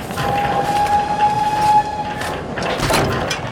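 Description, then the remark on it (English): A train rumbles steadily as it pulls into the station, a thin high brake squeal ringing over the broad mechanical noise for a couple of seconds, loud, with no voices. “I've been looking up and down the train for you”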